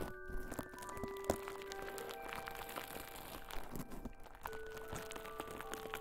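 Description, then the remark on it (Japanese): Soft, steady crackling made of dense, irregular tiny pops and crinkles, continuing for the whole stretch at a fairly quiet level, with faint sustained tones underneath and no voices. “このパチパチって音でしょ。”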